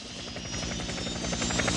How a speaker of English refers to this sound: They all follow him into the helicopter.